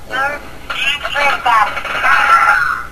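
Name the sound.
phone ringing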